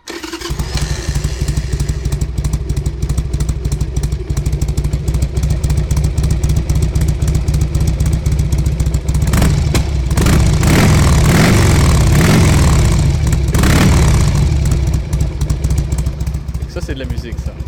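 A Harley-Davidson motorcycle engine idles with a deep, steady rumble, then revs up hard a few times in the middle before settling back to a loping idle.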